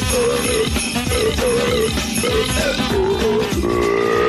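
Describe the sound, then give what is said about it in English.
A Christmas song melody burped out in loud, sustained, pitched belches, presented as Oprah Winfrey burping the Christmas classics, over a steady jingling backing beat, continuous throughout, with no speech. “Oprah Winfrey burps the Christmas classics.”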